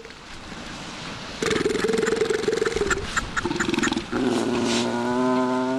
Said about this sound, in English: It's hard to spend time in the Bering Sea village of St. Paul without thinking about fur seals. Their barking echoes from nearly every corner of the Ununga village.